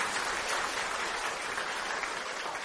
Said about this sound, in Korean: 한번 일어서 주시면은 우리 박수로 환영하겠습니다. 네, 축하합니다. 잘 오셨습니다.